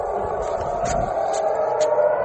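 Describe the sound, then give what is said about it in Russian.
An air raid siren wails steadily, a sustained droning tone over a constant background hiss, with no voices. “Сирена, слышь, заорала?”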